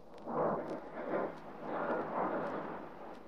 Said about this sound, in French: L'Etna, le plus grand volcan actif d'Europe, entre en éruption le 30 janvier. Au milieu des explosions et des laves incandescentes, c'est la désolation qui s'abat une fois de plus sur une région trop souvent sinistrée.